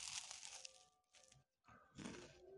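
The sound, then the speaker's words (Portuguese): Crunching of someone biting into a crisp biscuit, a few bursts of crackly chewing separated by short pauses, with no talking. “O café já tá morno, não dei uma mordida na bolacha.”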